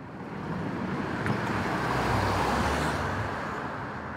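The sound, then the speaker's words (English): A four-wheel internal combustion car backs out of a driveway in a sprawling college town, its engine a steady low rumble with tire noise that swells and then eases off over a few seconds, with no voices. “But no, he backs out of his driveway in a four-wheel internal combustion automobile.”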